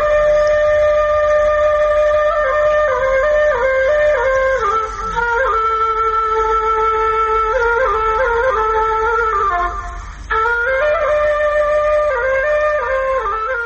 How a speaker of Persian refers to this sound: شنیدن ساز توله بر شما تأثیر می گذارد. توله را بلوی گل نواخته، گل در حرکت آمده. توله در فرهنگ افغانها چی جایگاهی داشته و تا چی حد این وسیله در موسیقی افغانستان حفظ شده است؟ آله موسیقی سنتی خود افغانی است.